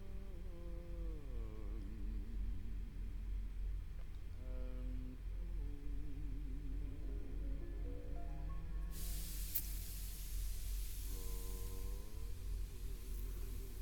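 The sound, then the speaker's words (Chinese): A steady, airy hiss of a soothing, cooling facial mist spray, applied after hot mist, begins partway through and continues to the end, over a constant low hum with faint wavering tones. “这个呀是镇静舒缓的冷汁喷雾，刚刚用热加热，刚刚都是一些热喷雾，让你的毛孔舒展开来，现在喷些凉喷雾，可以紧致皮肤，收缩毛孔，将导入到你肌肤深层的一些营养，锁在你的皮肤里面哦。”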